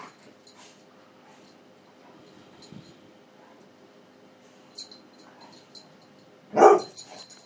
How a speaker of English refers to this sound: Hi everyone, dogs are playing.